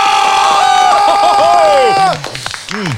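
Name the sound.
applause sound effect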